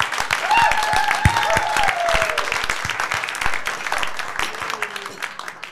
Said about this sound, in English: We have a big round of applause.